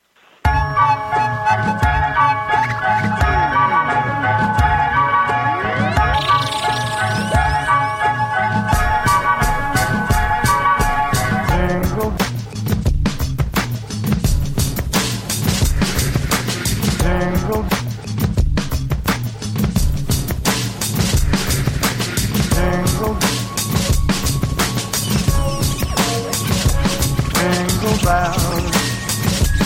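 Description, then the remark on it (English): An upbeat, bouncy rendition of Jingle Bells plays on the show Max and Friends, steadily at full volume, with bright jingling bells shaking along to a quick, even beat and a cheerful melody on top, no voices heard. “We're going to play a quick song.”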